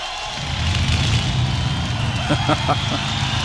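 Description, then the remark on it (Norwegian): A piston aircraft engine, a Spitfire's, runs with a steady, deep, throaty roar, its low rumble holding constant, joined near the end by a quick burst of sharp popping crackles. “Ja, det er jo en Spitfire-motor det her.”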